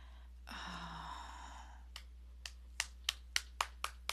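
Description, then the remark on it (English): A long breathy sigh, then a hand slapping skin about eight times, sharp smacks that start spaced apart and quicken into a steady rhythm, growing louder. “Slap it. Slap it. Let me hear you slap it.”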